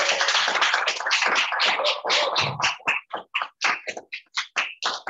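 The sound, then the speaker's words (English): An in-person audience at the Hemingway Summer Poetry Series applauds in a dense burst of clapping that soon thins out into scattered, separate claps and fades away over a few seconds, with no talking. “I feel like that just deserves a round of applause.”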